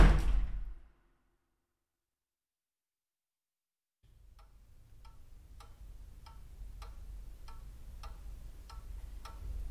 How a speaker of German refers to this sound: Zieht es noch jemand? Oder ist jemand sauer? Wieso haut jetzt jemand? Das hat irgendwie auch eine starke Bedeutung, eine Tür zu hauen.